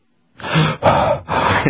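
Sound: breathing into the microphone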